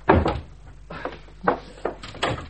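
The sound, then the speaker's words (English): A wooden wardrobe door creaks and knocks open in a few uneven bursts, with sharp bumps and rattles spread over a couple of seconds, moderately loud with no talking. “Oh, the wardrobe.”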